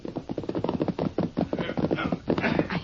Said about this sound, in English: Yeah, it's a posse, all right. No prisoners. Those horses sound tired.